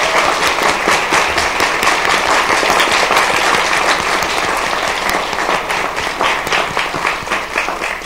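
An audience at Wesley applauds steadily for about eight seconds for the introduced principal of Woodley Hills, some members who work for her clapping extra loud: a dense, loud wash of many hands clapping with sharp individual claps popping out of the texture, no voices heard.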